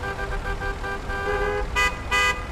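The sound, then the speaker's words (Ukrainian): Car horns honk repeatedly in a traffic jam over a low, steady rumble of idling traffic, with two louder, brighter blasts standing out near the end. “О, ні, затор. Ненавиджу стояти в заторі.”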